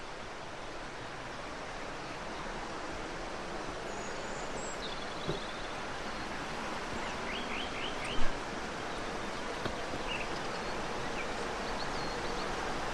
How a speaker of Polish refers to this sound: Oczywiście następna piszka górska śpiewa za mną, ale super.